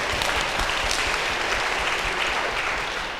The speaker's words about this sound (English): You can clap for them.